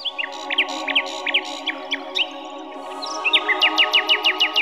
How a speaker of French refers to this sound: Et le rossignol chanta jusqu'à ce que l'empereur s'endorme d'un sommeil paisible.